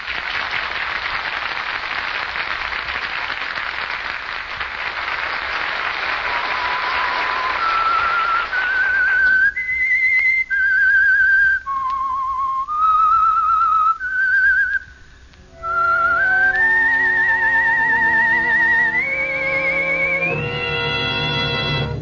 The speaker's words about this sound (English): That whistle is your invitation to another Meisterbrau mystery drama presented by The Whistler.